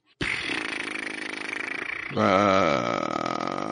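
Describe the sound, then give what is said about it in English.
A seal gives a long, low, buzzing groan that holds steady, then jumps louder into a wavering, throaty call with a rising and falling pitch, heard alone without talk. “That sounds like a seal.”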